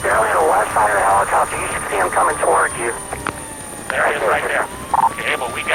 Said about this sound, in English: Within minutes, the chopper is in the area of the chase, searching for the suspect.